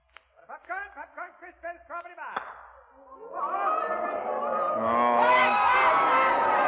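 A short run of rhythmic, honking calls gives way to a baseball crowd erupting in cheers for a home run, the roar swelling louder and staying dense to the end.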